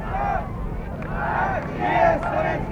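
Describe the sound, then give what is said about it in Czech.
A large crowd in Prague chants the name "Gagarin" in unison as Yuri Gagarin departs aboard a TU-104 aircraft, the rhythmic shouts rising and falling about once a second over a steady roar of background noise. “Lidé skandují Gagarin, Gagarin.”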